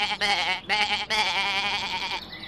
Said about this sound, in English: The goat. What's that? I'll go and check. There's a goat in our garden. A goat? Shoo! Go away.